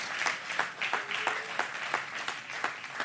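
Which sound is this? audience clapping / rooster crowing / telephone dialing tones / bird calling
audience clapping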